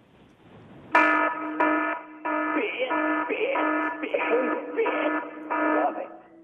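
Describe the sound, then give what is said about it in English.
A loud electronic alarm tone sounds in repeated bursts with brief gaps, a harsh buzzing ring that persists for several seconds, with faint voices mixed underneath. “I don't want anyone getting confused with what you just heard. That was the fit alarm.”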